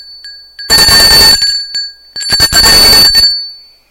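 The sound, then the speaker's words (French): A loud, harsh wake-up bell rings in two long bursts with a short pause between, its metallic tone hanging faintly in the gaps, waking people up. No one speaks. “Ils sont réveillés par une sonnerie.”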